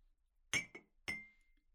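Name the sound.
glasses clinking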